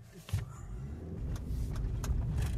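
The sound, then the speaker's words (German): A car drives along the route of a running race through the forest to check that the course signs are still in place, with a steady low engine rumble and road noise, and a few brief clicks and rattles over the continuous drone. “Mit dem Pkw fährt er die Strecke ebenfalls noch einmal ab.”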